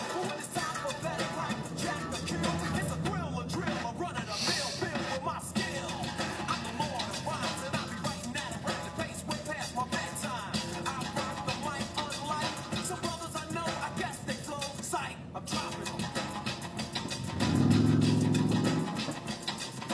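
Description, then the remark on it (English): Steady street traffic rumbles throughout, then near the end a bus's heavy engine grows louder and deeper as it pulls away from a stop at a traffic-light intersection. “Oh, the bus moved. Maybe next time the light turns green, I'll be able to move.”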